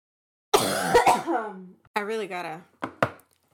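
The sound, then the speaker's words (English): Several harsh coughs and throaty clearing sounds come in short bursts, loud at first, then a couple of quicker hacks after a brief pause, with a strained, voiced rasp between them. “I really gotta stop with, like, the coughing.”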